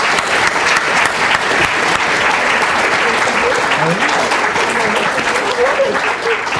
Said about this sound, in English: Please keep your clapping to thank our participants,